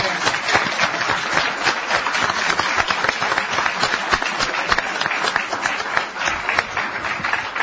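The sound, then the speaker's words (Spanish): Steady applause from a small group during the El Espectador radio broadcast from Montevideo, a dense patter of many hands clapping continuously at an even loudness for several seconds with no voices standing out. “Bueno, un aplauso, ¿no?”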